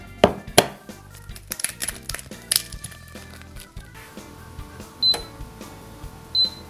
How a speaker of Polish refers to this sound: czy jesteś na tyle odważny, żeby spróbować rozbić jajko jedną ręką? No jak pan redaktor chce zjeść naleśnika z fragmentami skorupki jajka, to możemy spróbować.